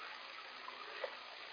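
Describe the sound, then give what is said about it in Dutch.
A steady stream of water is poured for a drink for over a second, a soft continuous gush with a faint splash near the end, fairly quiet and heard on its own with no talking. “Ga je eerst al wel even een slokje water drinken, jongens, hè?”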